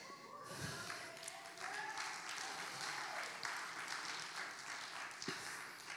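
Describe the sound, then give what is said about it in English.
A crowd breaks into applause after a brief pause, a dense, steady wash of many hands clapping that holds at an even level for several seconds without fading. “Save the applause and questions for later.”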